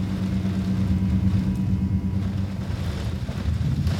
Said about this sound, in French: Vous voyez assez peu de lumière, quelques voitures qui passent en bas.